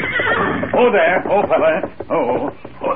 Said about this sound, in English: Look, Kemosabe. Horse without rider, grazing along trail ahead. His rider may have had an accident.